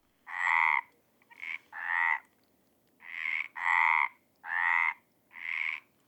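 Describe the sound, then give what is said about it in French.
Frogs croak in a series of about seven loud, rasping, mid-pitched bursts, each lasting roughly half a second, with short pauses between them and no voices. “Abondantes sur les bords de la Méditerranée, elles forment parfois de grands concerts assourdissants.”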